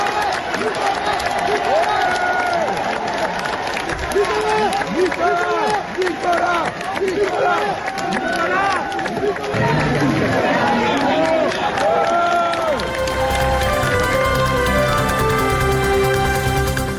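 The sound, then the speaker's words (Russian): A dense crowd of supporters cheers and applauds as a man leaves for prison in a luxury car, many voices shouting over steady clapping for about thirteen seconds, before music takes over at the end. “В тюрьму, куда его провожали красавица-жена, дети и внуки, он уехал в шикарном автомобиле под аплодисменты своих сторонников, которые сегодня же проводили в Париже митинги в его поддержку.”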